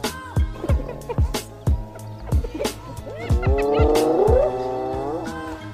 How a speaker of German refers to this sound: So hört es sich an, wenn eine Hyäne schreit.